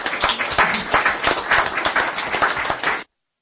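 A burst of applause from a group at a municipal council session, for the mayor just confirmed by the councillors' vote, dense overlapping claps at a steady loud level for about three seconds, then stopping abruptly.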